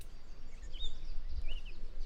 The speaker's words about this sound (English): And then the red-winged blackbirds. Those are in abundance here. They're really loud.